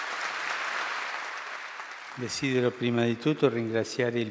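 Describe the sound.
A crowd of about a hundred people in Castel Gandolfo, Italy, applauds on a Sunday to welcome Pope Francis, in a steady, dense wash of clapping for about two seconds, then the clapping fades under a man's voice that begins speaking over it.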